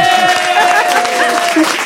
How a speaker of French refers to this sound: On t'applaudit. Ouais.